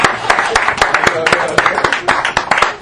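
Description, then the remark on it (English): An audience at a church service claps for a woman, a dense run of sharp, overlapping hand claps in a loose, fairly steady rhythm, loud throughout, with a murmur of voices underneath. “Please, I want to clap for her.”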